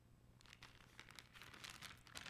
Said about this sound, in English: And they gave it to us, mostly coins, as you can hear, and some dollar bills. And it was all they had. It was all that they had saved up.